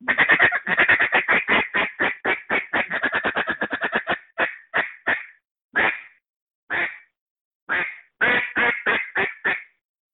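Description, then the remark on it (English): A rapid run of short, clipped feed chatter blown on a duck call to settle ducks, slowing into spaced single notes, then ending with a quick burst of quacks to finish a calling routine, loud with no talking. “So now they've turned back, and we're going to do one more set of feeds to really sit them down, and then we're going to quack to finish it off.”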